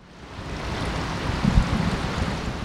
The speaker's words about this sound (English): Water flows into a concrete tank where 18-month-old brown trout dart back and forth